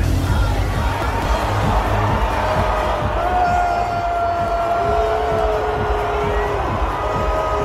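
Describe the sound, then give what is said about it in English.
A large stadium crowd boos a woman shown on the big screen chugging down a beer, a steady, sustained roar of low disapproving voices that lasts throughout, with a faint sustained tone drifting above the din. “But she got booed.”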